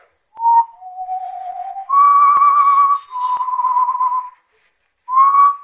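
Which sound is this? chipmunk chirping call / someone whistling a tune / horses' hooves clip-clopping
someone whistling a tune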